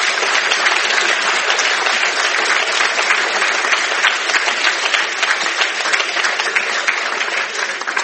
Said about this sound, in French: Donc, un immense merci pour votre participation. Merci. On peut applaudir les intervenants.